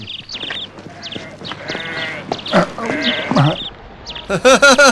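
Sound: sheep bleating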